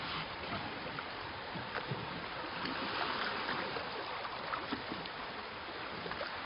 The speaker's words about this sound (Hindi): चप्पू पानी के अंदर।